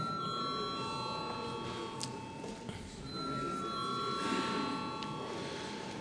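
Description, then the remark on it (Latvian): A steady electronic bell rings continuously for several seconds in a parliament chamber, calling members to vote on a bill in its second and final reading. It is a sustained multi-tone chime over a low background murmur, with no speech. “Lūdzu zvanu.”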